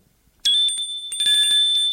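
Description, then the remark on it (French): A small hand bell from a low table rings out with a bright, high metallic tone, shaken repeatedly so the clear ringing pulses and sustains for over a second after a quiet start. “Madame de Breteuil agite une clochette qui est sur la table basse devant eux.”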